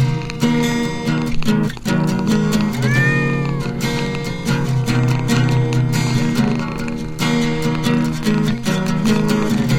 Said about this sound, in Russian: Достаю странный пакет Вискаса, вываливаю все это дело ему в миску. И он опять доволен, мурлычет, мяучит.